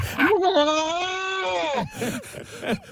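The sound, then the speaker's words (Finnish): A person mimics a turkey for about two seconds: a long, wavering, strained vocal cry, followed by a few short choppy gobbling bursts, loud and alone with no other talk. “Täältä 2 sekunnin kalkkuna seuraavaksi.”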